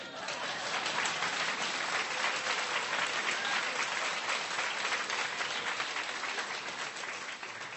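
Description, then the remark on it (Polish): Steady audience applause, a dense wash of many hands clapping at an even, sustained level for several seconds, with no voices standing out above it. “Po czym nastąpiło klaski.”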